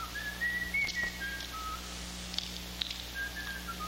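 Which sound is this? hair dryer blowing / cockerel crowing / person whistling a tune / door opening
person whistling a tune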